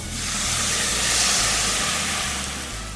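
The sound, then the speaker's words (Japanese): Steady, loud sizzling of shrimp shells, garlic and aromatic vegetables stir-frying over high heat in a pot, a continuous hiss with a faint low hum underneath and no talking. “白ワインをなぜ入れるかっていうと、もちろん風味付けもですけども、結構強火で炒めてるので鍋底が焦げつくんですね。”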